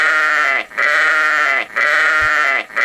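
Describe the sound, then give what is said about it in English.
A sheep bleats loudly over and over, three long, wavering, nasal cries separated by brief pauses, with no voices alongside. “The sheeple sound is really called for today on the program to lighten things up and show people what they become.”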